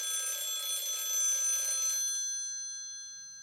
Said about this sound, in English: The phone call. It's for you.